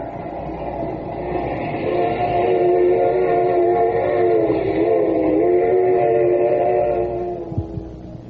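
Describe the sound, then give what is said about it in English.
A steady rumbling hum of a moving train heard from inside a carriage, with sustained tonal whine and low clatter throughout, fading slightly near the end with a brief knock. “Just as sure as we are sitting in this train, Judge Graham will die.”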